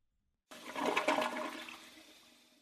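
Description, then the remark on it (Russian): A city toilet flushes into the sewer with a sudden loud rush of water that swells, then gradually drains away and fades, with no one speaking. “Теперь содержимое городских унитазов будет без всякой пользы смываться в канализацию.”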